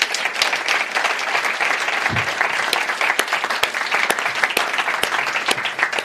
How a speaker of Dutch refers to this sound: En die wil ik graag aan u voorstellen. En geef ze een applaus.